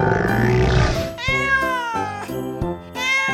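A fluffy cat meows several times in quick succession, loud, each call a drawn-out, wavering cry, after a rougher, strained yowl at the start.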